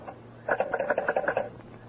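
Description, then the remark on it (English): A telephone is picked up and its hook jiggled to take a long-distance call from New York, making a quick burst of rattling, bell-like clicks that lasts about a second, with no talking. “Well, I'll take it on this phone here.”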